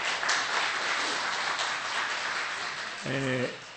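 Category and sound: crowd, audience applause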